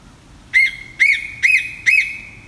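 A Pacific koel in Illawong, New South Wales, calls four times in quick succession, each loud, clear whistled note rising and then dropping, evenly spaced, with no voices.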